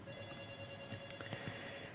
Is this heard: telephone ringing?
yes